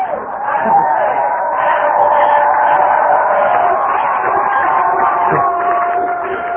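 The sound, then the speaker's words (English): A large audience cheers and yells happily to greet a speaker, a sustained wall of overlapping voices and whoops that stays loud and steady from start to finish. “The last time I heard that much happy yelling was when I joined AA.”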